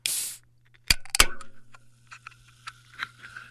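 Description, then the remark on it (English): A seltzer is opened: a short burst of hissing gives way to two sharp metallic clinks, then a scatter of faint, irregular crackles and pops of the carbonated water fizzing, with no voices. “For me, it was a seltzer.”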